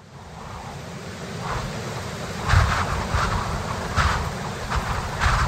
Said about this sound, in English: But what is this? Goodness, what force the wind can get up in a few minutes. What a tremendous gust.